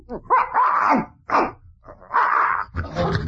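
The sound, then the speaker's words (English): A male dog, wagging his tail, barks in a short run of four or so loud bursts with brief pauses between them, with no one talking. “The dog's wagging his tail.”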